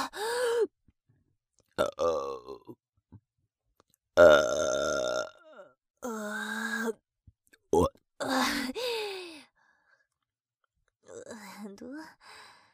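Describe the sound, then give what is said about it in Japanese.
A series of loud burps in a female voice, some long and drawn out, others short, with pauses and soft breathy sighs between them and no talking. “女の子に汚ねえゲップさせんの好き？”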